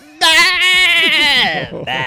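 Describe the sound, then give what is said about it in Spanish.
On the Caracol Radio show La Luciérnaga, a human voice imitates a goat as the show's goat character arrives, letting out one long, loud, quavering bleat with a wavering vibrato that slides downward and breaks off near the end. “Llega la vaca. Y el mexicano. Y el chivo.”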